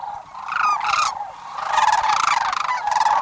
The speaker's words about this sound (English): In the rosy glow of sunrise on a southwestern marsh, a pair of sandhill cranes calls in unison. With a graceful leap, wings outstretched, the two cranes welcome the last days of February.